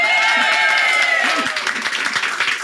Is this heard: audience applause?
yes